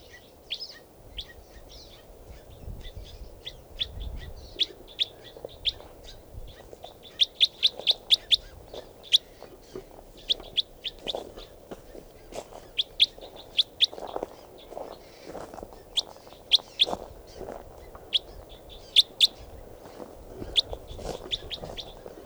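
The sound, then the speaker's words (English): A red male bird calls over and over in quick, high-pitched chirps that come in irregular bursts throughout, with lower rustling and muffled thumps underneath and no one speaking. “That was the red male.”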